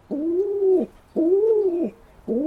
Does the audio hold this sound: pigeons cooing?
yes